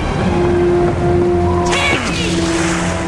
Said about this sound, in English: Water's freezing! In his street clothes, he hops into the water.